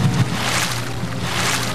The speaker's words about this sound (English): I like this. I like those water sounds. They are relaxing, actually.